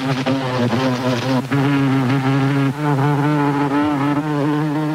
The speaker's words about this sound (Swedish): Det mesta jag hittar är skalor med surrande insekter i olika toner.